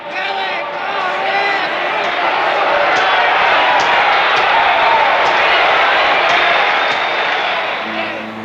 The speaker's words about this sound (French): La foule rugit quand Firpo projette Dempsey complètement hors du ring dès le premier round.